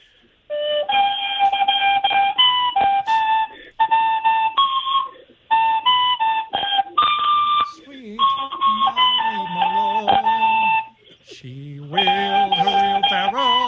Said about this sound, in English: An Irish tin whistle is going to play Marilyn Malone.